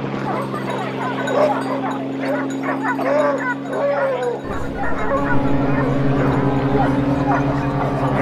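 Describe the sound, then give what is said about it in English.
A dog being walked outdoors barks and yips repeatedly at an irregular pace during a location recording, over a steady low droning hum that continues throughout. “Location recording is time-consuming and you have to deal with, ironically, external noise. There's a helicopter above us. Yes, and people walking their dogs.”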